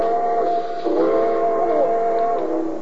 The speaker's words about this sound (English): Train number 31, the Cinder Bucket, now leaving on track 3. Board!